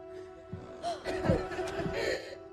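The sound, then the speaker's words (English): Heavy, raspy breaths from Michael Myers in the 2021 movie Halloween Kills, a few rough exhales and inhales that some hear as a hoarse whisper of "Give it back," fairly quiet over a steady background hum. “Fans believe that he whispers, "Give it back," asking for his mask, but others just hear heavy breathing.”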